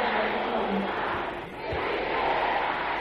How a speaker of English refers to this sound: Can I hear the sisters shouting this loud and clear?